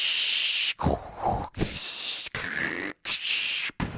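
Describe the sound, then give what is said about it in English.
Harsh, steady hissing static like white noise, broken into about five bursts by short abrupt silences, with a rough, breathy texture throughout; a rain-like white noise effect played from a phone app called White Noise Rainy Rain Staticky Shush Time. “A wide range of white noise, rain-like effects, to lull you to sleep.”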